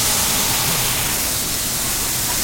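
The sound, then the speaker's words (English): A steady, loud hiss of a touch of water sizzling and steaming in a hot pan of garlic and onions, helping the onions steam and cook quickly; continuous throughout with no pauses or voices. “We're going to add just a touch of water to that, and that's going to help it steam and cook those onions quickly.”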